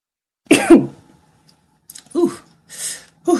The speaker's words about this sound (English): Sorry. that was a sneeze that took a long time to come out.